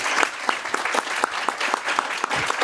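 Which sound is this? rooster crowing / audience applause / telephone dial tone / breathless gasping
audience applause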